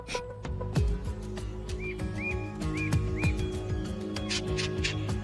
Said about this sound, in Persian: ما فقط قراره صدای اون پرنده رو دنبال کنیم تا محل لونه سازیش رو پیدا کنیم. به نظرم شدنیه. اما من یه حسی دارم و چیزیه که تو میشنوی نمیشنوم.